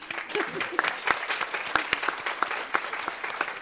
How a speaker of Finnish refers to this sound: aplodit.